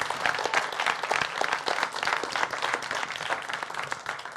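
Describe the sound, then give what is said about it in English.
A church audience breaks into steady applause for the youth ministry, many hands clapping together in a dense, sustained wash of sound that holds at an even level throughout. “So if you could just join me and give a round of applause for our youth ministry.”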